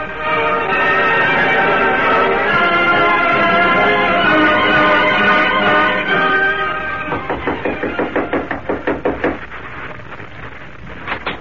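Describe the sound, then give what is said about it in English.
A long, drawn-out whinny-like tone gives way to a rapid run of hoofbeats as two men on saddle horses gallop off over a ridge, the rhythmic thuds loud for a few seconds before trailing out. “There they go, see? Right over the ridge. Two men on saddle horses.”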